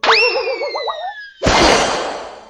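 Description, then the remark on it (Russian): A loud, springy bowstring twang with a wobbling, vibrating tone rings out, followed about a second later by a harsh, noisy rush as the arrow flies, fading out gradually. “Вот один метнул стрелу”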